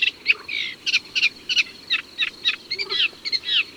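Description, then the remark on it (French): A Eurasian reed warbler sings a chattering, stuttering song of short, high notes repeated in quick groups, churring on steadily with no voices present. “Son chant est un bavardage insolite et un peu bégayé, composé de cris répétés 3, 4 ou 5 fois et enchaînés à d'autres.”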